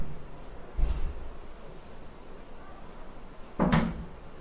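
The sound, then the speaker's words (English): A door is pushed shut with a soft wooden thud, then a louder, sharper knock a few seconds later as it closes fully. “could you close the gate outside and close this door?”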